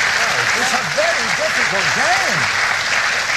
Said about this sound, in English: Gosh, mate, you went for 38 seconds. Blimey. Very good, but a little round bit of applause, annoying.